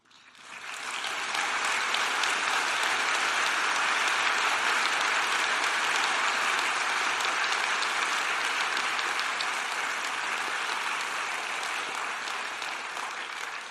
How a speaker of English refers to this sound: That's kind. I stopped for coffee, not applause, but it's very good of you. So, thank you.